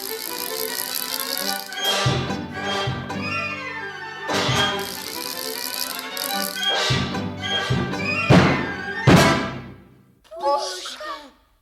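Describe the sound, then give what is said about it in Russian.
A wind-up mechanical toy clunks and thumps along in a steady, lurching rhythm for several seconds, its knocks loud, mixed with busy voice-like sounds, then it winds down to a brief rattle. “Заводная механическая игрушка.”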